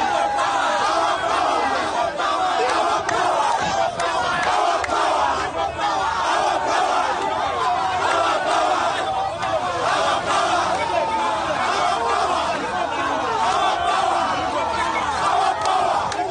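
A large crowd gathered at a police station in Uganda where legislator Chagulanyi was held chants and shouts slogans together, a loud, dense, unbroken roar of many voices that holds steady for the whole stretch without pauses.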